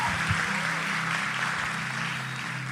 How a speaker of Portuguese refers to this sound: Uma salva de palmas para os atores.